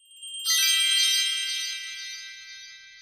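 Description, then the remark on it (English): A tiny bell rings once with a bright, high tinkle, its shimmering tone lingering and slowly fading over a few seconds. “And what about this tiny bell?”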